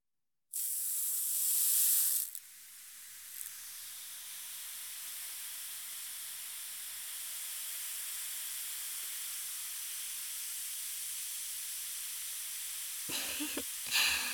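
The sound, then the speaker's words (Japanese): A lightly sweet-scented carbonated bath powder fizzes in hot water for a footbath, opening with a brief louder rush and then settling into a steady, crackling hiss that continues throughout, with a few small splashy stirrings near the end. “炭酸のシワシワが足に伝わってきましたか？”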